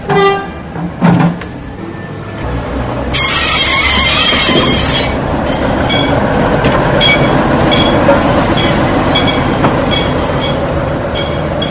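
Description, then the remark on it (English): A DMU train on a heritage railway runs past: a brief tonal horn-like note at the start, then a loud, steady rumble and hiss with repeated rhythmic clacks of wheels over rail joints. No one speaks. “It's hardly ever used, and it's such a nice vehicle to see running.”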